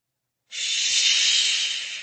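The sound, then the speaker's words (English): After a brief silence, a creature with glowing green eyes that has crawled out of the water lets out one long, steady hiss. It is harsh and airy, stays loud for over a second and a half, then eases off slightly at the end. No one speaks. “Shh, it hissed.”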